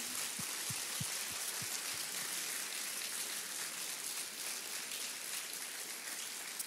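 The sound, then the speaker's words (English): A church audience applauds the mothers present in a steady, dense wash of clapping that holds evenly for several seconds, with a few low thumps near the start and no voices. “Would you give the moms in the room a round of applause for all that they do?”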